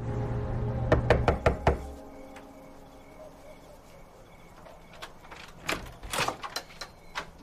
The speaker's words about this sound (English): Now, she knocks on the Hillman's door.